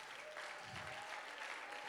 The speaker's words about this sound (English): Come on, clap your hands.